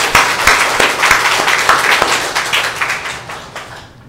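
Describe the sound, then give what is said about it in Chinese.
A church audience applauds to give glory to Jesus Christ, steadily, a dense wash of many hands clapping with a few sharper individual claps standing out, sustained for several seconds before gradually thinning at the end. “咱是用咱的欢喜的心，甲咱的掌声，将荣光归于为咱死搁我的主耶稣基督，咱来感谢主。”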